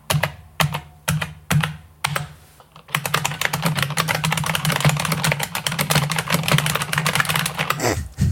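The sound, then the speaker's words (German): Clacky typing on an IBM Model M mechanical keyboard: a few separate keystrokes, then a fast, steady burst of continuous typing over a faint low hum, ending abruptly. “Ich habe eine hier und wir können mal kurz einspielen, wie die klingt.”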